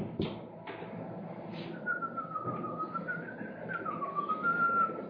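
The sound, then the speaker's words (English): A person whistles a steady, wavering tune for a few seconds, clear. A few soft knocks come just before it, with a low rumble of background noise underneath. “Yes, I both whistle and sing, and I play with the overhead projector.”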